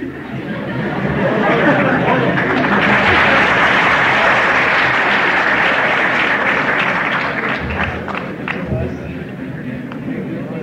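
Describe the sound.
Sustained applause from a crowd, a dense steady wash of clapping that swells in the first second and holds loud for about ten seconds, with faint murmuring voices mixed in.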